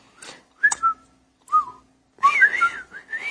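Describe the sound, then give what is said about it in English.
A dog's master whistles a few short, sliding notes with pauses between, then a longer warbling run of rising and falling pitches, as if calling a dog. Clear, no talking. “As he stamped, the dog's master whistled.”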